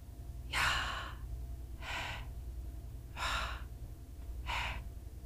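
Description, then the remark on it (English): Four breathy, gasping breaths spaced evenly about a second and a half apart, fairly loud, a person imitating the labored breath of a human being as life leaves them, over a low steady hum, with no talking. “It's when a person's breathing.”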